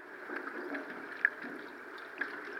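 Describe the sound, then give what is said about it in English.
Muffled underwater sound of river water recorded beneath the surface with a hydrophone, a steady murky wash with soft gurgles and two brief sharper clicks, no voices. “So that's what we recorded. It was beneath the water with the hydrophone.”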